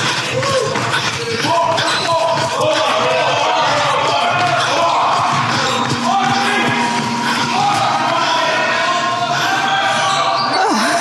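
A basketball scrimmage in full swing at the Manhattan College Gymnasium, beneath rows of emerald green banners: a ball thumps irregularly against the floor while foul-mouthed players shout and yell over one another as the scrimmage gets heated, a loud, busy, continuous mix of voices and bounces.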